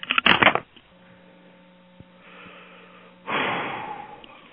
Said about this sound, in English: That's me breathing.